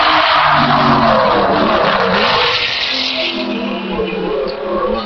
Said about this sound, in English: We've just watched a little vehicle go by that has a four-cylinder firing engine on the back, which reminds us of nothing so much as an engine mounted on a skateboard.